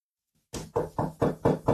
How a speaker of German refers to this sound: Ich habe versucht, laut zu klopfen. Ich hoffe, über die Aufnahmen hat man es gehört.